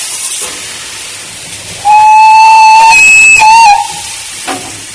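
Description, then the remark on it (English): A steam locomotive that originally worked at Kinneil Colliery sounds its whistle in one long steady blast lasting over a second, clipping briefly at its close, over a constant loud hiss of escaping steam, as the driver puts it in full reverse and takes the steam brake off. “Just about to put it in full reverse. Take the steam brake off. And we'll move on open the regulator.”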